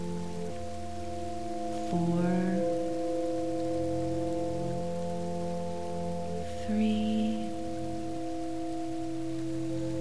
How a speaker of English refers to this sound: 5, you hear the sounds of the waterfall growing louder.